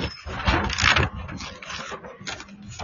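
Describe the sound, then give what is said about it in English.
A delivered cardboard box holding soccer nets is kicked and scuffed around outdoors in New York City, giving irregular scraping thumps and rustles with a louder burst early on, set against steady outdoor background noise. “You hear this box I'm kicking around?”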